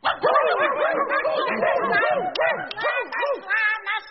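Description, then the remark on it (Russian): Several trained dogs bark and yap at once in a dense, overlapping chorus, loud, the rapid barks tumbling over each other for about four seconds without pause. “Сейчас я приглашу группу дрессированных собак из серии. А ну-ка, ребята.”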